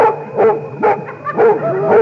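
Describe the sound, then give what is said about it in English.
A dog chasing people across a field barks in a quick series of four or five loud yaps with a slightly whiny edge, spaced roughly half a second apart, over a faint steady background hum. “But surely we can't escape from the dog.”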